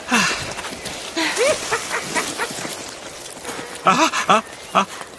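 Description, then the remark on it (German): Loud, ongoing rustling among densely packed, leafy trees in the rain, with bursts of odd, sweeping bird chirps that rise and fall in pitch, clustered at the start and again near the end. “Ja, da war ein lautes Rascheln und ein merkwürdiges Vogelgezwitscher.”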